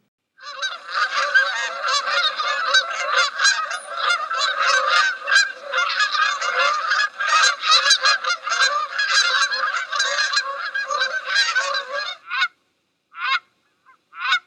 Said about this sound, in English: You can often see them in flight, moving either in pairs or flocks. When you'll see them in flocks, they assume a V formation. Listen to the sound of Canada geese.